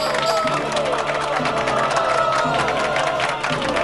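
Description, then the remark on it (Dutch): A large crowd cheers and shouts continuously, a dense roar of many voices with excited yells rising above it, loud and sustained throughout. “Waarom staat iedereen ineens zo te juichen?”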